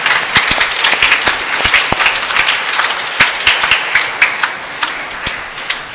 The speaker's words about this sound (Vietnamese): Một lần nữa chúc mừng giáo họ Đa Minh và cảm ơn, một tràng vỗ tay thật lớn.